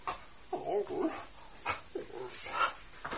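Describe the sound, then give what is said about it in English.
A dog, Nana, lets out short barks mixed with high, wavering whimpers and whines, the sounds coming in uneven bursts with brief pauses between them. “To think I have a master as a change places with his dog.”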